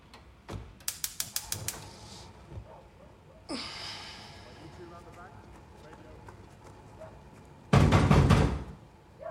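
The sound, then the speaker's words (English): A rapid burst of hard, loud knocks on a front door, a pause with muffled movement, then another forceful, insistent round of pounding. “He's startled by the aggressive knock and makes his way to the front door.”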